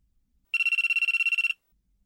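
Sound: mobile phone ringtone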